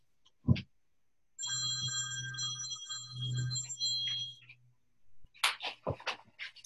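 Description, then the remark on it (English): A phone rings with a steady, bright electronic tone for about three seconds, then stops, followed by a burst of clicks and handling noises as the phone is fumbled with and turned off. “Sorry, I'll just turn my phone off.”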